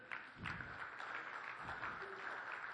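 An audience gives Jesus a clap offering, clapping together in a steady, dense patter of many hands, sustained at an even level throughout with faint murmuring voices underneath.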